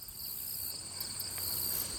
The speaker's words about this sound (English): This loud chaos of bugs. It's this buzz that was so loud and so beautiful. And you couldn't deny it. You know, the dragonflies buzzing by and the bees and all of that, the butterflies, the loudness was so beautiful.